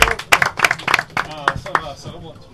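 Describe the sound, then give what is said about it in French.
An audience applauding guests seated around the table, including the president of the Ligue Languedoc-Roussillon and the Federation's secretary general: a burst of irregular, overlapping hand claps, fairly loud at first and thinning out toward the end, with voices murmuring underneath. “on peut les applaudir.”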